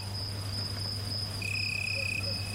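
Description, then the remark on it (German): A continuous high-pitched cicada drone with a second shrill tone joining partway through, steady and unbroken, over a faint low hum and no voices. “Als Klingelton in Kurzfassung bleibt das Zikadensirren für Handys sogar recht beliebt.”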